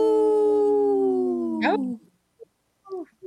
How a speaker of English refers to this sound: This portion of the show is supported by Howling for Wolves, protecting wolves for future generations. Oh! Howl!